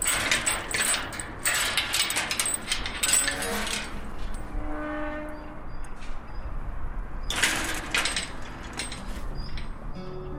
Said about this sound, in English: The creaking of the gate announces their arrival. It's a chilly Saturday afternoon in late February, and these are some of the people who have worked to transform a piece of Dublin 8 into a living, growing space.